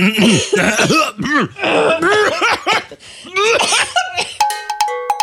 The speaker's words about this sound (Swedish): Det verkar vara så det är nu, så jag harklar lite och snurvlar på lite här. Jag tycker att vi kan ta 5 sekunder där vi harklar oss riktigt ordentligt, båda två.